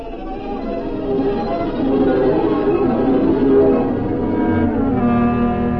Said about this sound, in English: what are those bells?